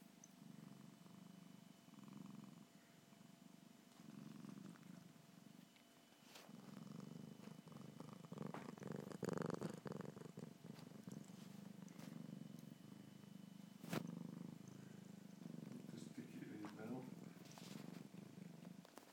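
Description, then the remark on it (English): A cat purrs loudly and steadily, its rumbling pulsing in a regular rhythm across the whole stretch, with faint background sounds and a brief soft voice now and then. “the reason why I'm doing this audio book is because of Michelle's cat, George, who purrs rather loudly”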